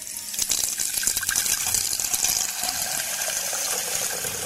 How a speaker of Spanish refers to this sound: El primer paso es llenar el agua en una jarra de un litro.